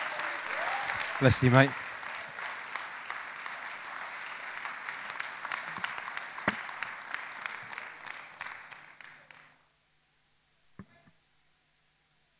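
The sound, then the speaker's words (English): An audience claps steadily for about ten seconds to welcome two speakers, the dense applause then stopping abruptly, with a brief spoken remark near the start and a faint clap or two afterward. “So I want to ask you to give a big round of applause and a welcome to”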